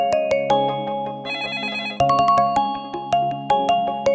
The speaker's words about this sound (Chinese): 主人来电话了，来电话了，快接电话。